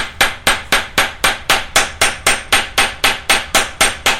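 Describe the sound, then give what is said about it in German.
A peening hammer beats a scythe blade laid on a knee-high wooden block with two metal screws, drawing out the metal to make the edge sharp: a steady run of about sixteen sharp, bright metallic taps, evenly spaced at roughly four per second, with no voices. “hat ein Sensenblatt genommen und legt es auf einen kniehohen Holzklotz mit zwei Metallschrauben, stellt sich einen Stuhl daneben und schwingt den Dengelhammer.”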